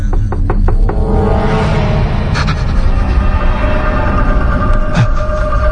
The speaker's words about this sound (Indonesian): ada yang mengetuk pintu kamarku. Jelas sekali. Semakin lama, suara ketukan pintu itu semakin keras dan kencang.